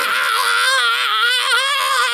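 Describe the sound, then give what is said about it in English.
A voice imitates Ash Ketchum's cartoon electrocution scream from Pokémon: one loud, sustained, high-pitched wail with a rapid trembling warble, held for about two seconds without a break. “I'm sure people are loving listening to us do the Ash Ketchum getting electrocuted scream over and over again.”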